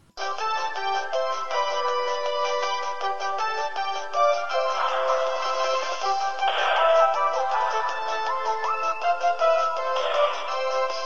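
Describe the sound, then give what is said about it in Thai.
A bright electronic phone ringtone plays continuously for about eleven seconds on a bright morning, a looping melodic tone, fairly loud with no voices. “มันเป็นรุ่งเช้าที่แสนสดใสมันแม่ตื่นนอนตรงเวลาแต่ยังไม่ทันลืมตาก็มีเสียงโทรศัพท์ดังขึ้น”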